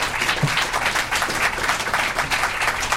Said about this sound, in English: We have now come to the end of our program. Let's have a warm round of applause for our guests.